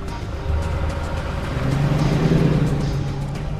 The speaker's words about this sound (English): The van pulls out of the car park. Jack and Doyle look down discreetly as the van's headlights rake across their vehicle.